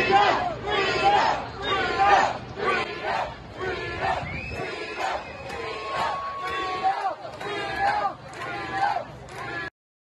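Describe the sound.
Hundreds of protesters outside New York City Hall chant against a new vaccine mandate for entering gyms, indoor restaurants and entertainment venues, in loud, rhythmic bursts, voices rising and falling together in repeated slogans, with a whistle-like tone sliding through the middle before the sound cuts off abruptly.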